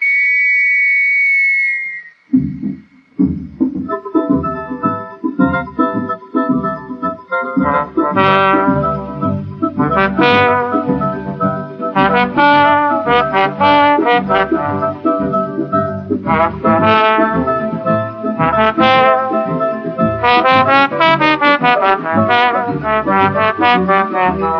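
A shrill, steady whistle blast sounds for about two seconds, then a lively samba band kicks in with brass, pounding percussion and a driving rhythm that keeps going loudly.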